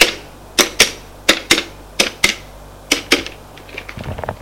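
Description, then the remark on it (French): The Minister of Justice, in his office, dials a telephone number: sharp, loud clicks arrive mostly in pairs at a steady pace, then a run of fainter, quicker ticks, over a low steady hum. “Prend son téléphone, fait un numéro.”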